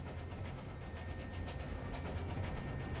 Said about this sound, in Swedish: På den sovjetiska steppen rullar farmors godståg vidare. Tåget kommer fram till Karaganda i dagens Kazakstan.